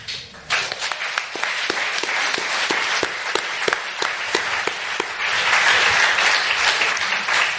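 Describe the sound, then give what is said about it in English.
An audience breaks into a round of applause, many hands clapping in a dense, steady wash that swells slightly louder toward the end, with no talking over it. “I'm not quite sure how I follow the round of applause”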